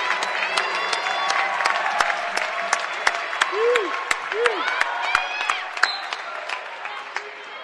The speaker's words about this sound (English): Here comes Keegan O'Neill in for Quentin Yoder. Quentin's going to get a nice round of applause.